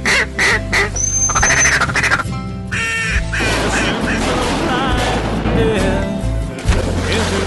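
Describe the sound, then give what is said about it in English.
Ducks quack repeatedly and loudly in a dense, overlapping chorus, with a steady background of outdoor noise throughout, heard during a duck hunt. “One more duck to kill in our limits, and it's got to be a greenhead, and it's going to be mine.”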